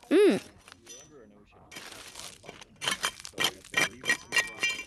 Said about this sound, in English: And of course, we use our hammers and break the rocks up into small pieces to try and find the fossils hidden in between the layers.